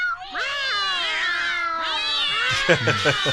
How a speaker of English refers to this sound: So, ton of cats run in. And a lot of cats.